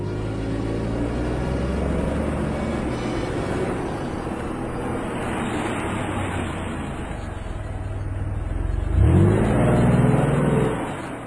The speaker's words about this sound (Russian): Автомобиль медленно ехал по неровной горной дороге.